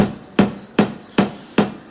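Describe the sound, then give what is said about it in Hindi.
Steady hammering, five sharp strikes spaced evenly about every 0.4 seconds, each a loud percussive knock with a brief ringing decay, as someone mends the broken window of his house. No voices present. “कमल तो मजे से नींबू पानी पीता हुआ अपने घर की टूटी हुई खिड़की जोड़ रहा है।”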